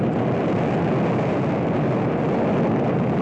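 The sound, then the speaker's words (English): A continuous, thunderous roar of five Saturn V rocket engines firing together in a static test, generating over 7.5 million pounds of thrust, a dense, rumbling blast that stays loud and steady throughout with no voices. “Those are the 5 engines, successfully static tested, all at once for the first time this last year.”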